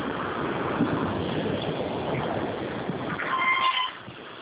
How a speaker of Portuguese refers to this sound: Tá um barulho aqui do caminhão. Tá, eu tô ouvindo aqui.